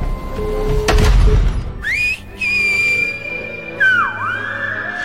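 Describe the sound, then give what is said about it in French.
A person whistles in the whistled language from the film Les Siffleurs (The Whistlers): loud, pitch-shifting whistles that rise, hold steady and dip, broken by short pauses. A thud and rustling background noise come first. “On parle beaucoup de langues dans votre dernier film, les siffleurs, mais une langue particulièrement, celle qu'on ne maîtrise pas, que seuls les mafieux de votre film maîtrisent”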